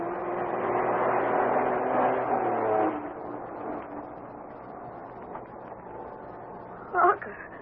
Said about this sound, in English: Led by Bobby, Harker and Irish are headed for the old silver mine, thought to be abandoned, but now Bobby and Harker have spotted a slow-moving truck coming down the narrow road from the mine. A truck that is dripping blood.